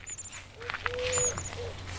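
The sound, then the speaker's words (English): Soft, low cooing from a pair of Eurasian collared doves in a spring courtship duet, one lower pitched and the other higher pitched, a few drawn-out notes, with thin high chirps from other birds and faint outdoor rustling in the background. “That's a collared dove, isn't it?”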